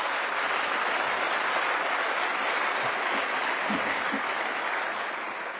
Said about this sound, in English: So please give Judge Alonzo a big round of applause.